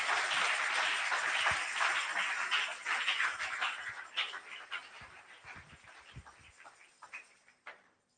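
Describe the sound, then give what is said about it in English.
An audience claps unto the Lord during a sermon, a dense wash of many hands that stays strong for several seconds, then thins into scattered, fading claps until only a few remain at the end. “You can clap unto the Lord.”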